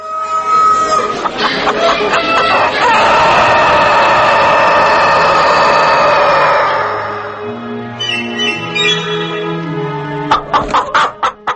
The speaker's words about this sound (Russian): «Петухи и курицы» в передаче ….